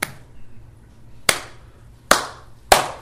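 Four sharp, crisp hand claps from a single person demonstrating how an audience begins to applaud after an astounding performance, spaced slowly at first and then coming a little quicker, each one bright and percussive against quiet background with no talking.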